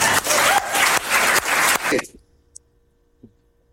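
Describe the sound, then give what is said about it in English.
A crowd applauds loudly in a dense, steady burst of clapping for about two seconds at an event welcoming U.S. Global Music Ambassadors, as a rapper is thanked. Then it cuts off abruptly, leaving near silence broken by a couple of faint clicks. “What a nice crowd.”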